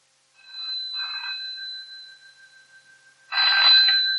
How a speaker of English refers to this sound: Is that my phone? Yes, we've just been saying it's been going all evening. Hurry up and answer it. It must be important.